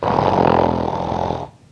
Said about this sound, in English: Snoring too loud. Sleeping.